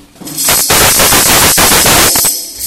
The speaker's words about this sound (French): Maintenant, on va présenter le sourdo grave